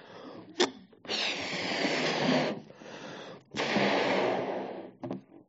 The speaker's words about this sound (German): Und dann gibt es noch einen zweiten Ballon. Den würden wir auch gleich aufpusten. Der hat diese Farbe.